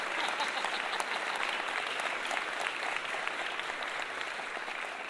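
A crowd applauds steadily, a dense wash of many hands clapping at once that holds a fairly even loudness throughout, easing off slightly toward the end.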